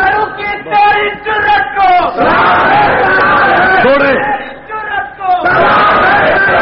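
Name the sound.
crowd chanting slogans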